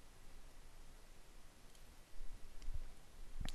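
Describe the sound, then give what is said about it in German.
A couple of quick, soft computer mouse clicks on a link in a web page, opening a window, separated by a short pause, against faint steady background hiss with no one talking. “Und der Link, der kommt von Zeile 16. Und klicke ich drauf, wird ein Fenster geöffnet mit dem Text Hallo JavaScript.”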